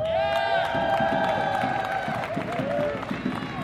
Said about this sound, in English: Give a round of applause, give your love to Alderman Carlos Rosa.